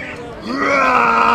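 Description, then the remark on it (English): At the Athens Street Festival, a person's voice imitates a dinosaur roar: one drawn-out, growling cry that swells in loudness and holds steady for about a second, with a low, rough, harmonic tone. “Do you know what sound a dinosaur makes?”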